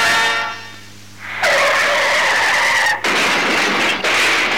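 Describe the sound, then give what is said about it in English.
A tonal, horn-like screech fades out, then a sudden loud burst of harsh noise and squealing tyres erupts, with jolting impacts around the three- and four-second marks. No one speaks. “If this happens to you, don't worry, don't fuss. Contact McGee Auto Bodies. They are specialists in crash repairs, spray painting and welding.”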